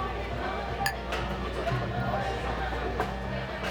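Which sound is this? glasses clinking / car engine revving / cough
glasses clinking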